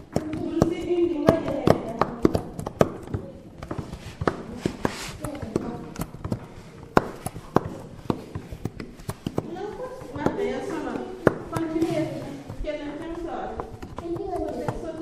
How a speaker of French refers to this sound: Alors c'est dans une salle de classe, ça je l'entends. Il y a des petits bruits, c'est quoi, des enfants qui jouent au ballon? Non, alors c'est des enfants qui écrivent le braille avec un poinçon sur une tablette.